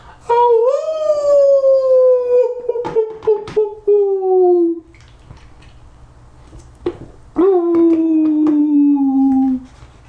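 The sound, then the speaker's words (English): A woman lets out two long, eerie howls, each sliding slowly downward in pitch, the first lasting several seconds, with faint clicks and background noise in between. “She raised her head and let out a ghostly howl.”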